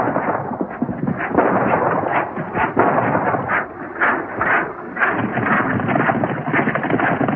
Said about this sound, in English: The cowboy puts the spurs to his horse. The old-timer ducks as the gang fires through the cloud of dust kicked up by Nellie. The cowboy gallops up behind the gang, gaining ground.